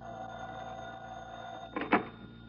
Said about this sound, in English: I had plans for a pleasant evening. The plans disappeared in the shrill of my phone.